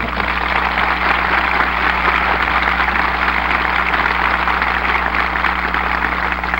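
A crowd applauds the performers steadily for several seconds, a dense, even wash of clapping that neither swells nor fades, with a low constant hum underneath and no voices.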